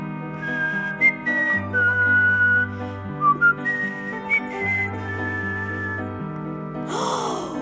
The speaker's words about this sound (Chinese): 春天来了，马可听到一只小小鸟的歌声。